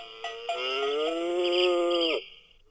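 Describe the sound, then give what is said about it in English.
A novelty cow-shaped alarm clock, an old alarm, lets out a single long, steady moo lasting about two seconds, loud and clear, then it cuts off abruptly. No one speaks. “Well, my old alarm we've also got in the system, which used to be in the shape of a cow.”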